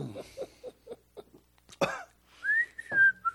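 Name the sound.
person whistling casually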